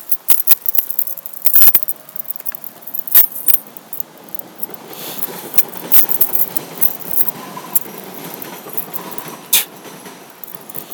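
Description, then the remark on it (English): A crowded key ring jangles in irregular bursts of bright metallic clinking, with sharper clacks now and then over a low, steady background rumble. “I just have too many goddamn keys on this ring.”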